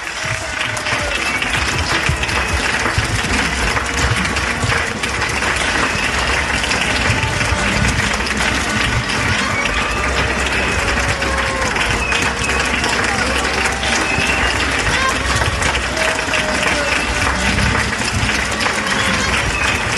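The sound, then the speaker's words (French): Many people in France applaud healthcare workers at 8 pm: a dense, steady wash of clapping that holds at a constant loudness for the full twenty seconds, with scattered voices and cheers mixed in. “Voilà, ces applaudissements à 20h, mais est-ce que ça suffit encore, ces applaudissements?”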